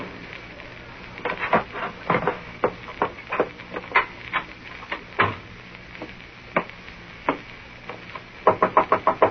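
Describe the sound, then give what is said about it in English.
Knocking on a door: scattered sharp raps over a hissy, crackling background, ending in a quick, loud burst of about six knocks. No one speaks. “Who is it? It's me. The door's unlocked.”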